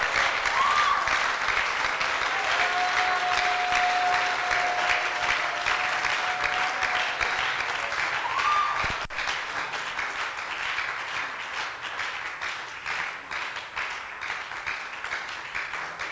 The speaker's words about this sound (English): Oh, come on, put your hands together. The young man here, clap, clap.